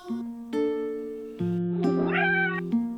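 A cute little kitten meows with a rising, drawn-out cry over steady, sustained musical tones that change pitch a few times; no one speaks.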